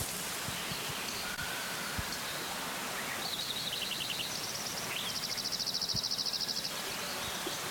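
several birds singing

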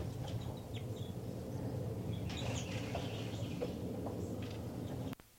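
bird calling

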